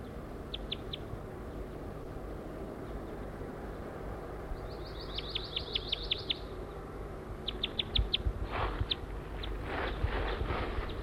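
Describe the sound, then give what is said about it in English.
A wild male bird sings in repeated bursts of short, high-pitched notes, with quick trills in the middle, over a steady low background rumble and some soft thumping sounds near the end. “I'm going towards a wild male who is singing here.”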